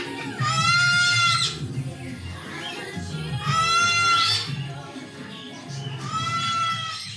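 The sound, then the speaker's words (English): At a bird party where the birds are let out of their cages, sulfur-crested cockatoos, including one named Triton, let out three loud, harsh, drawn-out squawks, each about a second long and spaced a few seconds apart, over a steady low background murmur. “As you can hear, these birds are loud.”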